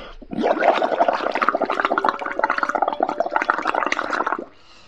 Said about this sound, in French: Le but, ça va être de faire des grosses bulles dans ton verre.